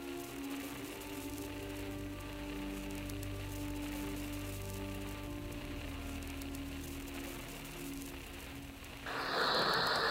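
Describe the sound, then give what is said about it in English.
Steady, dense heavy rain falls during flooding in Florence, pattering without a break, a continuous wash of noise over a low hum, growing louder and harsher near the end as a heavier downpour surges in. “The rain showed no sign of letting up.”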